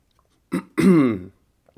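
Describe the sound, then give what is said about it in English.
A quick slurp of hot Pete's coffee, followed by a satisfied, drawn-out throaty exhale, then silence. “And with that, I'll take a sip and then tell you about the lineup, and then we'll get into the hands and the after stream and all that.”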